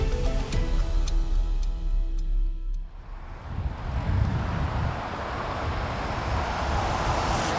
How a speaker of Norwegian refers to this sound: Trafikken dundrer av gårde på E18 ved Lysaker. Nærmere 100 000 kjøretøy passerer her hver dag på det som hovedfartsåren inn og ut av Oslo.